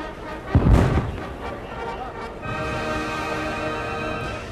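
A single deep, booming ceremonial salute cannon shot (Böllerschuss) goes off outdoors near the start, at the opening of the 1960 Oktoberfest, its blast rolling out and fading, followed by a steady hum of crowd and a brass band playing the first Oktoberfest march in the background.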